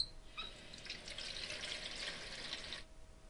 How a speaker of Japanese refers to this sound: よかったわ、水道がちゃんとあって。アリサは蛇口へ飛びついてひねった。